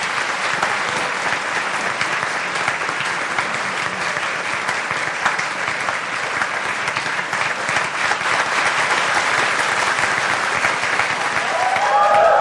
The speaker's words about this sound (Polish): Jeszcze raz wielkie brawa dla księdza biskupa.